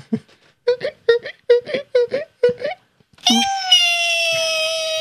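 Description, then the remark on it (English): Cartoonish squeaky screaming of snails screaming and running away: about seven quick, pitched yelps in a rapid rhythm, then one long, loud, steady high wail that holds to the end. “That's what they sound like when they scream and run away.”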